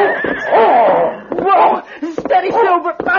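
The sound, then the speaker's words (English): A horse with a boy in the saddle, startled by a dog racing out from between two buildings, whinnies loudly, several shrill, wavering neighs in quick succession with brief breaks between them. “Then a dog raced from between two buildings and startled the horse.”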